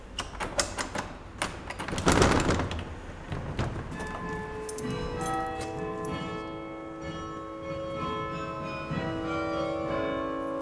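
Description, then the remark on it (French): Belfry carillon bells ring out in overlapping, lingering tones after a few seconds of clattering knocks and a brief loud rush, the chimes sustaining and layering steadily at moderate volume. “Quand on entend les cloches, en général, on ne les voit pas.”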